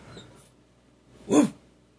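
A single short, sharp dog bark or yip cuts through near-silence, brief and moderately loud, with faint breathy rustling before it.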